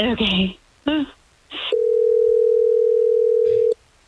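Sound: phone call ringing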